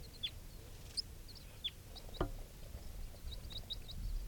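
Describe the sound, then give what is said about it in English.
Two type 4 birds flying around right by a mist net give a scattered series of short, high chirps and squeaks, about a dozen over a few seconds, irregularly spaced above a steady low rumble. No one speaks. “Recording two type 4 birds are flying around right here by the net.”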